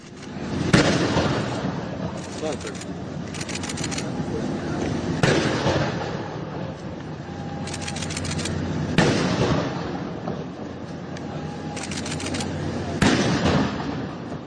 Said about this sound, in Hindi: प्रधानमंत्री का उत्साहपूर्वक भव्य स्वागत हुआ मालदीव्स के माले में। और 21 तोपों की सलामी दी गई प्रधानमंत्री को।